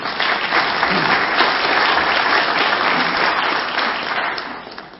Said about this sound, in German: Aber trotzdem an dieser Stelle nochmal herzlichen Dank. Und jetzt gerne auch mit Applaus.